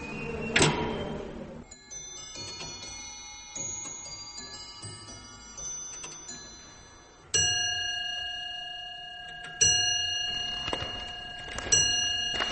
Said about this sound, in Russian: Хорошие часы, бой такой у них звонкий, даже как диковинка. Люди так, опа, еще часы бьют.